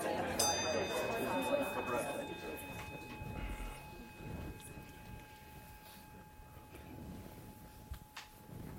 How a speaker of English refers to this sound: Look at that, he's rang the bell twice, everybody got quiet.